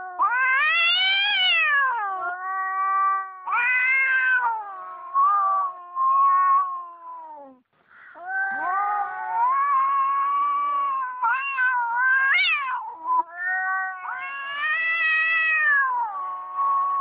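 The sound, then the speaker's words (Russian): A tomcat caterwauling in mating season: long, wavering, rising and falling yowls, loud, continuing almost without pause for the whole stretch with one brief break midway. “у меня есть запись мартовского кота, если не возражаете, опять же, давайте его поставим”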